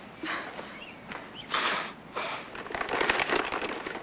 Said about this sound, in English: She pulls a handkerchief out of her pocket and blows her nose.